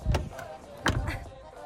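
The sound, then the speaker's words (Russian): A car door is slammed shut twice, each a heavy, dull thump, the pair less than a second apart over a low steady hum. “Сильнее надо закрывать, это центра.”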